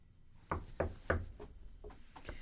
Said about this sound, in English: Knock wood.